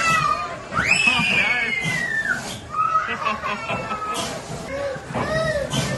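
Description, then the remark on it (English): A young boy screams in several long, loud, high-pitched wails on the big red boat, his first amusement ride, during a holiday around Brisbane and the Gold Coast. A steady wash of background noise runs underneath, with other voices faintly mixed in. “And this is him on the first ride we put him on, the big red boat.”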